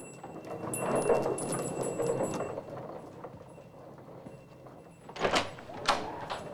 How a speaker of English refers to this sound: Barton opens the door again and steps out, watching Chet push his trolley around the corner at the end of the corridor.